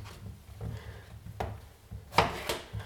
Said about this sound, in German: Und während diese Pfanne sich erhitzt, schneide ich zum Beispiel jetzt auch mal schnell die Zucchini in kleine Würfelchen. Dann ist auch das erledigt.